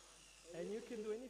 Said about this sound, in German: Zum Beispiel haben wir eine Drehbank gebaut für Holz. Das ist eine Drehbank, eine Drechselbank sogar.